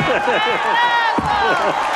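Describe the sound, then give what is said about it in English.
A crowd applauds steadily for about two seconds, the clapping blended with loud overlapping cheers and whoops that rise and fall throughout. “Your applause stings.”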